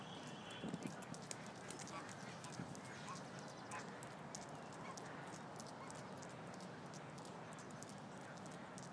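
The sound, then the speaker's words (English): Ducks honk and quack while a horse's hooves clip-clop steadily near the Buckingham Palace end of St. James's Park, all set against a dense, noisy outdoor background. “I think Vance needs to brush up on his duck distraction skills.”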